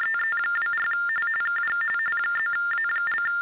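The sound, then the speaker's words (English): Ham radio interference tones from a ham radio operator chiming in: a steady electronic warble alternating rapidly between two high pitches, filling the whole stretch over a faint crackly background, with no one speaking. “It's somebody with a ham radio operator chiming in.”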